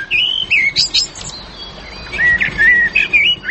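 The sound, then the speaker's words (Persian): Songbirds, including canaries, chirp and trill in quick bright bursts at a zoo, several birds overlapping in two busy flurries with a brief lull between, clear, with no one talking. The small songbirds were bought from abroad. “پرنده کلش پرنده خوش آواز است، سایره است، گلسر است، کنری است.”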